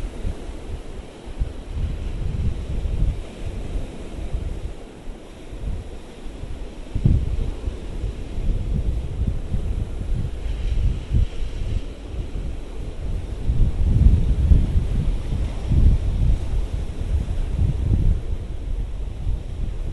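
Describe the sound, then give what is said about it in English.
Steady wind buffets the microphone over a low, rumbling wash of white sea waves breaking on the beach at Teymouth, swelling and easing in uneven surges. No one speaks. “I thought it was just a river, which is fine, but you know, there's a sea.”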